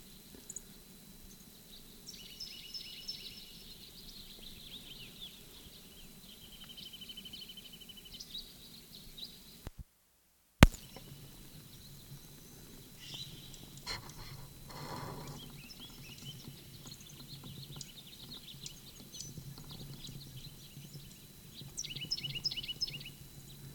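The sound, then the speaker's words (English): A bird in Upper Moline Gully, recorded March 12, 1965, calls in short bursts of high, bright chirps and trills, repeating at intervals over a low, steady rumble of background noise, with a brief gap of silence partway through. “Answer from Moline Gate Bird, 6:55.”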